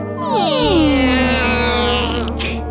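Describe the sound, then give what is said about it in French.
The door of a haunted, barricaded manor creaks open by itself in one long, drawn-out groan, its pitch sliding downward before settling into a steady, loud drone that fades near the end. No one speaks. “Tout à coup, la porte s'ouvrit toute seule.”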